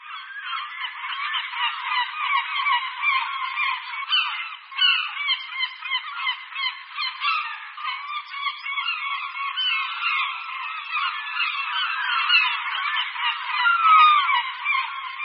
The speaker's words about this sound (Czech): Posloucháme křik hejna Racku Stříbřitých. Jsou to velmi společenští ptáci, kteří obývají skoro celou severní polokouli, a to nejen na pobřeží, ale i ve vnitrozemí.